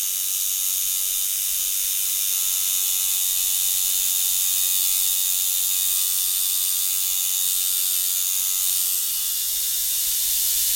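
A tattoo machine buzzes steadily for the whole stretch while tattooing with blue ink, a continuous mechanical hum with a fine, rattling texture and unchanging pitch, with no talking over it.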